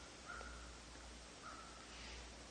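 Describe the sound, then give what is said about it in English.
Crows caw twice in a quiet meadow, about a second apart, each call short and harsh, against a quiet, steady outdoor hiss with a low rumble underneath. “Only the crows keep up their exuberance.”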